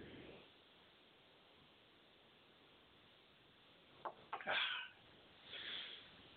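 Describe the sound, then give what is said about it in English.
A quick cluster of harsh, breathy coughs after a quiet stretch, followed by a softer rasping exhale, as a speaker pauses while reading a Bible passage aloud. “And when he had, excuse me, coughed.”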